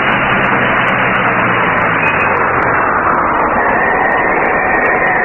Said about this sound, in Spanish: El auto cruza por una extensa zona cubierta de polvo. Calimán y el pequeño Solín, asidos a la parte posterior del vehículo, hacen esfuerzos por sostenerse en aquella incómoda posición. Al fin, el auto se detiene.